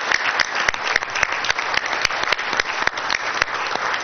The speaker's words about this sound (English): I think that we can all just really give a great round of applause to all of our teachers. I'm so grateful for all they do for the students.